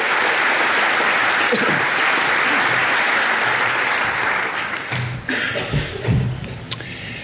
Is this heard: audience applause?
yes